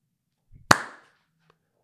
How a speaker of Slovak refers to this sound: Dobre, stop. To ukončenie musím spraviť inak. Takže tlesknem.